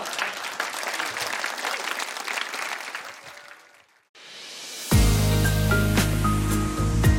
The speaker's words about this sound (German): Ob de Bühnen in Bad Bemsen wie de Dichtertagung wär bannig wat los und dafür auch. Das Publikum hat fix applaudiert und johlt wieder ein oder andere Geschichte von den NDR Poetry Slam ob platt.